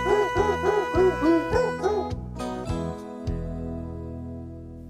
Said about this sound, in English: I'll play them barking dogs all day, but please don't make me play that grandma song.